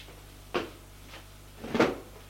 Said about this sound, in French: Le ferme et ferme l'armoire.